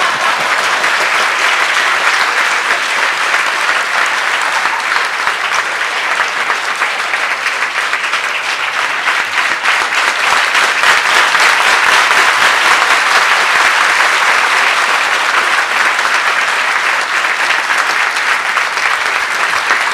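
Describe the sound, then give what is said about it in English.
A large audience applauds steadily and loudly after the speaker barks, a dense, sustained wash of clapping with no pauses and no voices standing out. “See, you clap when I bark, but not when I speak.”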